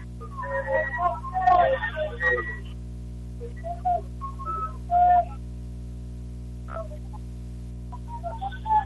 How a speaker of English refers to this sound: Right off the whistle